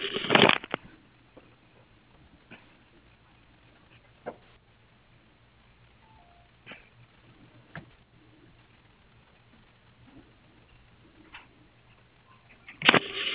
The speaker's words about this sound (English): Okay, I was typing something. I just needed to finish.